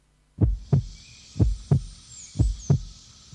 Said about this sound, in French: Écoute ce battement, écoute ce signe vital. Quel que soit le cœur humain, animal ou végétal, trop souvent on l'oublie, mais la vie est tout autour de nous.